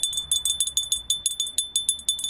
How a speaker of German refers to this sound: Bei tschechischen Kindern klingelt es aber schon einen Abend vorher an der Tür, und zwar so.